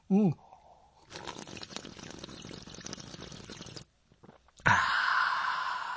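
A brief vocal sound, then a long, wet, noisy slurping sip of a drink, a short pause, and a breathy, hissing exhale or swallow afterward.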